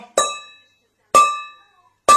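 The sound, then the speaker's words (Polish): A metal bowl worn on a councillor's head, used to imitate a church liturgical gong, is struck three times at an even, unhurried pace, each hit ringing with bright, clear overtones that fade within about half a second. “Dźwięk, który miał udawać kościelny gong liturgiczny, to tak naprawdę metalowa miska, którą radny w chwili nagrania miał na głowie.”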